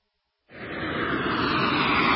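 airplane engine sound effect

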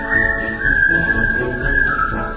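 whistling a tune

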